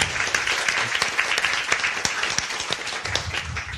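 A crowd applauds steadily, many hands clapping in a dense, continuous wash of sharp claps that holds at an even, fairly loud level throughout, welcoming a comedian guest onto a panel show.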